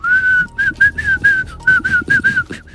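A person whistles a tune, a clear, steady melody of short connected phrases that rise and fall slightly, close and fairly loud with no talking.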